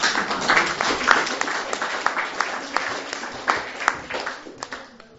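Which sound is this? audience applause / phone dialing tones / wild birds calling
audience applause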